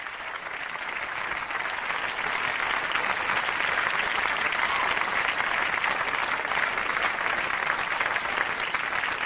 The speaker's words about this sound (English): Let us all give Rajan a round of applause.